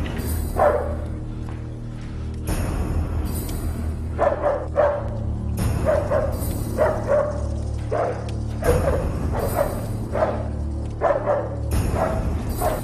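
dog barking aggressively

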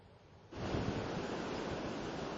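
rushing floodwater

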